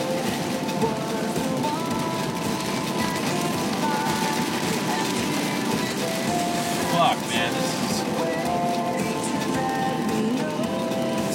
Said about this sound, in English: oh yeah, the rain seems to be letting up, the traffic's letting up, like, this is cool.